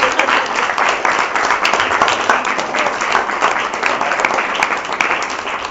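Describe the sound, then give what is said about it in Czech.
Steady applause from an audience at the end of a lecture, many hands clapping in a dense, continuous patter at fairly loud level for several seconds, with no break or fade. “No jasně, ještě mi zatleskejte.”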